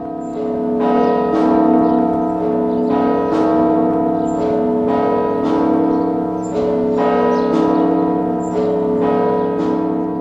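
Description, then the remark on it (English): Russian Orthodox church bells ring from ancient belfries in a dense, continuous peal, with rich sustained overtones and repeated bright strikes every second or so, loud with no voices. The ringing is part of an Easter Bell Chimes Week tradition in Russia. “The Bell Chimes Week, a tradition several years ago, returned to us from oblivion.”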